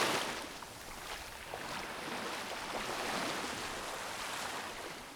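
Steady roar of ocean waves washing and crashing, a broad continuous rush of surf with slight swells in intensity, no voices.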